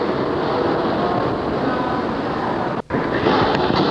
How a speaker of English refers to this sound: There's a large water pumping section which I'm standing next to, and at the other end is the steam cylinder. There it goes. We'll go down and have a look at the piston in a minute.